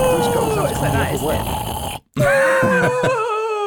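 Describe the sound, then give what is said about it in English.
A voice imitates a guttural, gross-sounding yawn: a long, rough, drawn-out groan, a brief pause, then a second wavering, croaky stretch that trails off. “It must make that some weird sound. A gross guttural sound.”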